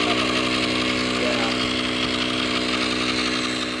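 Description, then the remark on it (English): A steady, loud motorized pump drones, its humming whine holding constant throughout without pause as volunteer scientists and a teacher inflate a small pontoon boat on a hot day of 112 degrees. “A couple of volunteer scientists and a teacher from our old high school, Desert Mirage, they're pumping up a small pontoon boat.”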